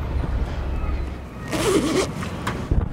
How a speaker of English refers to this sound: Just had to zipper up my coat. I'm covered in snow already.